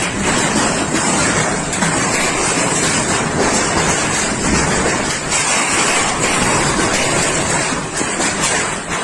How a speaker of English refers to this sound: In a stunning turn of events, a massive hailstorm has descended upon the picturesque region of Veneto, Italy, leaving a trail of destruction in its wake.